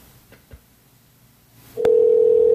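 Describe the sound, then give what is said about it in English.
After a quiet stretch with faint background noise, a click leads into a loud, steady electronic phone tone of an outgoing Skype call being placed, holding evenly to the end with no one speaking. “So let me call you right back, and it will be an immediate hang up, and then the phone will ring once again.”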